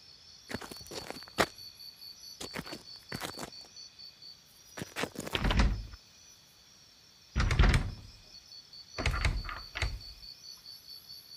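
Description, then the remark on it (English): A door is rattled and tugged but stays shut: clusters of sharp knocks and clanks, then three heavier thuddy pulls, with a steady insect-like chirring in the background and no voices. “The door won't open.”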